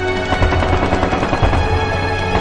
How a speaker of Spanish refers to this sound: Y se comenzó a oír el tableteo de las ametralladoras y la nada, y entonces tú te vuelves, te bloqueas.